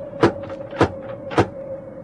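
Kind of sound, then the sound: household object, knocking on a door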